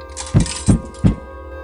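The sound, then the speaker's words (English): Coins drop into a machine one after another, three evenly spaced metallic clunks with a bright clink and a low thud each, fairly loud, with no talking. “I think one of the coins got stuck.”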